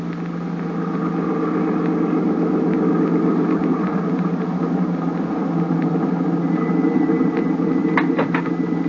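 A car engine hums steadily throughout as the vehicle drives along, a low continuous rumble with faint mechanical rattles and a few brief clicks near the end, no voices.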